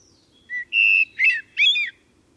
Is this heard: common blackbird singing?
yes